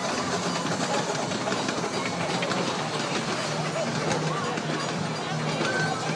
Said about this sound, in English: There's the whistle coming from Bonanza Park from the train.